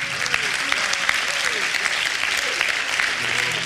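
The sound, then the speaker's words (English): A church audience claps in sustained, dense applause as a hand clap praise to the Lord, steady and loud throughout, with faint vocal murmurs and cheers rising underneath the clapping. “Give the Lord another hand clap praise.”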